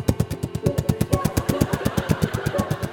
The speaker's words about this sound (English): Police helicopter.